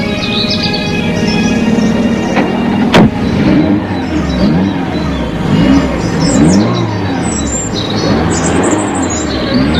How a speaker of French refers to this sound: La voiture file.